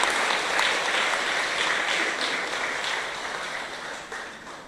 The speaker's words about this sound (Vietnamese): Hãy dâng cao tràng vỗ tay để tán dương tất cả các thầy cô giáo nơi trên.